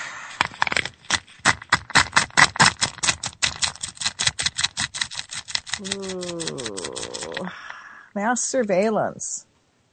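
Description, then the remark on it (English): A prize wheel spins with a rapid run of sharp clicks that gradually slow and spread apart as it winds down, followed by warbling, sliding tones near the end. “Should we spin that wheel one more time?”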